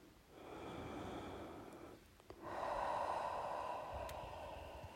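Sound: deep breath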